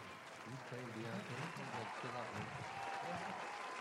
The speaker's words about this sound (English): People are clapping for us